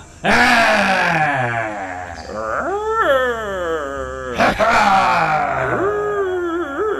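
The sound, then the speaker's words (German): Loud, drawn-out roaring from a couple of voices, rising and falling in long bellowing bursts that overlap, forceful, with no words spoken, as two people massage someone's muscles. “Und am besten brüllen wir recht laut dazu.”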